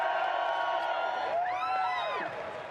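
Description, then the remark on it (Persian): An audience cheers and applauds loudly and steadily, voices blending into a sustained roar, with a rising and falling whoop standing out near the middle before the noise tapers slightly. “خب تشویقم کنید ببینم.”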